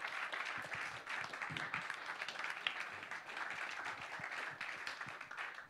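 Audience applause at an ICF church service to welcome a guest onto the stage: a steady, dense wash of many hands clapping, holding an even loudness for several seconds without letting up, with no voices over it.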